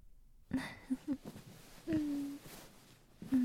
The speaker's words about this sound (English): Your yawns are adorable. Finally. Getting a little sleepy.